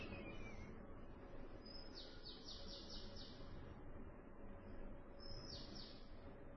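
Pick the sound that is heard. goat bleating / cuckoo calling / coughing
cuckoo calling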